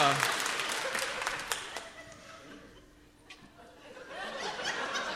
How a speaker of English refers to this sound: All right, now clap if you think it's the song.